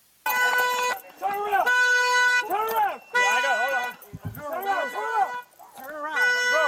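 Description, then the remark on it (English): A loud car alarm, set off when a man hit the car, cycles through its patterns, alternating steady, buzzy horn-like tones with rapid rising-and-falling electronic warbles and short chirping bursts. “He set off the car alarm when he hit it.”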